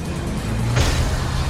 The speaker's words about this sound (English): As he gets in, Mike bursts through the doors of the unit in one of the trucks.